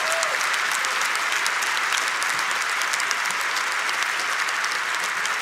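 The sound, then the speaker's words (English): A large audience at Northwoods church applauds steadily and loudly to welcome a guest pastor to the platform, a dense wash of many hands clapping at once with no break for the full five seconds and no talking over it. “Give him a large, warm, loud welcome.”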